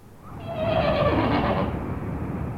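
A single horse whinnies loudly, a shrill, quavering call that slides downward in pitch and trails off over about two seconds, with no talking.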